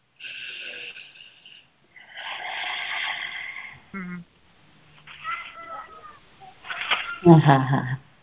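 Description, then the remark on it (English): A cat bringing up a hairball lets out several drawn-out, strained vocal cries in separate bursts with short pauses between them, growing louder and rougher toward the end. “Thank you, Miss Kitty.”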